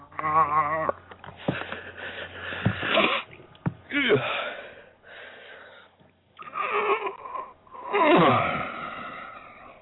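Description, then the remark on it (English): A dog pants and wheezes in rapid, ragged bursts, with sharp sniffs and strained breaths repeating irregularly over about ten seconds. “Hyperventilating on me.”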